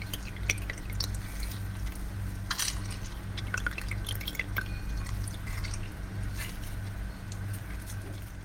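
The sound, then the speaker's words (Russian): Juice from an orange cut in half is squeezed into a mug, about a quarter of the mug, to be mixed with water, heard as irregular drips and small splashes of liquid over a low, steady background hum, with no talking. “Нам нужно выдавить сок из апельсина. Для этого возьмем какую-нибудь небольшую миску, чашку или стакан. Я возьму свою кружку.”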